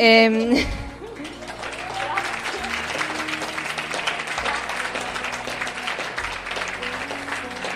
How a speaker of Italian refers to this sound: Quindi in realtà tutti gli applausi vanno a lei.